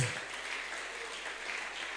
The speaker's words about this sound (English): Clap louder. I don't like the clap.